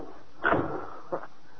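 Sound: door opening and closing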